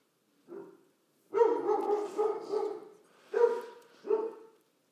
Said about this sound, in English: His dog barks when he has a seizure.